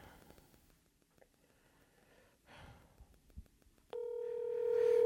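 Soft breathy rustling and faint whispers give way to a loud, steady electronic phone tone that starts abruptly and holds unbroken to the end as an outgoing phone call is placed.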